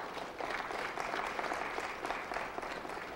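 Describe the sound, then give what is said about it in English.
An audience breaks into sustained hand clapping in praise, a dense, steady wash of applause that swells slightly after the start and holds at an even, loud level with no voices. “Can somebody give him a big hand clap of praise?”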